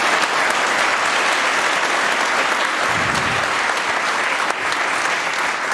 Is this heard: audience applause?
yes